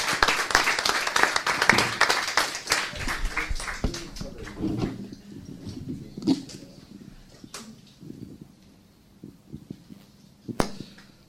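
An audience breaks into applause, a dense burst of many hands clapping that thins after a few seconds into scattered, fading claps, with one last sharp clap near the end.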